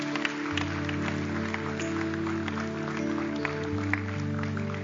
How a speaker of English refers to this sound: Let's give these folks a big, big hand clap.